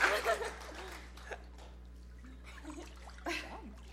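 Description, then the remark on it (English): A loud burst of water splashing opens as a person is immersed during a baptism, then settles into softer sloshing and trickling drips, with a second smaller splash near the end and faint voices in the background. “upon your confession of faith in the Lord Jesus Christ, we baptize you in the name of the Father, and the Son, and the Holy Spirit.”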